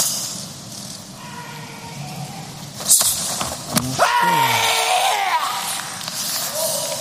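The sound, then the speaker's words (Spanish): A single sharp karate kiai shout rings out as the final shout of a kata at an Olympic karate competition, after a full turn and a jump, preceded by a quick thud of feet landing, with a steady murmur of crowd noise throughout. “Ese giro completo, con un salto y un kiai, su último grito.”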